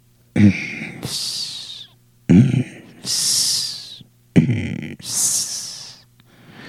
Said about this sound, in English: This sound was a deep guttural sound, followed immediately by a hiss, regular and steady.